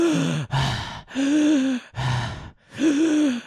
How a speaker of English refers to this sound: So I was panting not because of your sexy voice, because I think that's what people would naturally incline to think. Yeah, that's what I thought you were doing. No. I'm panting because I'm on major withdrawals,